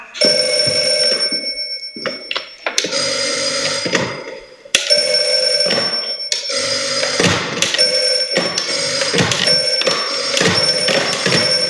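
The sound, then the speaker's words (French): Telephones ring insistently, several bells overlapping in repeated bursts with brief gaps, loud, filling the whole stretch with no voices. “Est-ce que vous entendez, vous, où sonnent les téléphones?”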